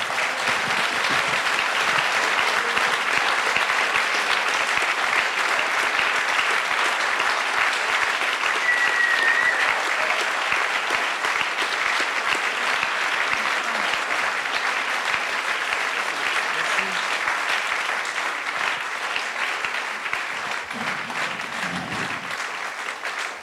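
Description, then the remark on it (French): A large audience at an evening performance claps steadily and loudly for over twenty seconds, a dense, sustained wash of applause that holds its intensity throughout with no talking over it. “Et franchement, des soirées comme ça, il n'y en a pas beaucoup et ça mérite un tonnerre d'applaudissements.”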